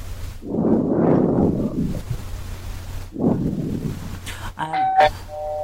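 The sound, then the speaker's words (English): Two bursts of low rumbling noise are followed by a short electronic doorbell chime, a few bright ringing tones played from a small phone speaker as a 30-minute timer alarm tone set on a phone. “There, it'll be a doorbell.”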